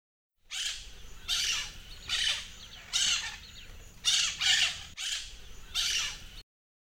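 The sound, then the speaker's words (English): A parrot squawks repeatedly in harsh, raspy bursts, about seven calls in quick succession, loud with brief gaps between them and no talking. “What is this? It's a parrot.”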